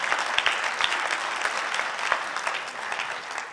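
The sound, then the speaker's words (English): An audience applauding steadily during a sermon, a dense wash of many hands clapping at a fairly loud, even level for several seconds with no voices over it. “You know, that was the biggest clap we've had this entire sermon.”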